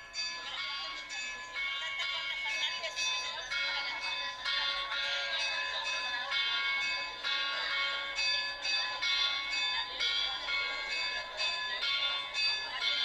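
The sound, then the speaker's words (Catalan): Church bells ring out continuously in a traditional peal for the feast of Sant Antoni, overlapping strokes tumbling in a steady, busy rhythm, loud and resonant throughout with no voices. “A veure si ho ha de xifres, a veure si sí, té un nom, aquest toc de campanes.”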